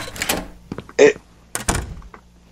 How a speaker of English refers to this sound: A door. It is locked. Inventory menu. Plunger. P. P menu. Use on door. You unlock the door. Yay. It was the right one.